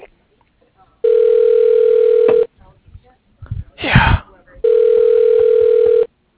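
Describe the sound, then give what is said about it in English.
A steady telephone dial tone hums loudly for about a second and a half, breaks off for a brief rustling, breathy burst, then returns just as strong before cutting out. “Do you want to make phone calls for me?”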